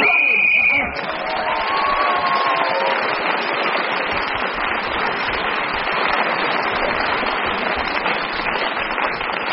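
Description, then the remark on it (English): A single shrill, steady whistle blast lasting under a second, blown to end a speaker's turn, immediately swallowed by a loud, sustained wash of audience applause and cheering. “Well, a fine example of expostulation, and kept him going until the whistle went, gained that extra point for doing so”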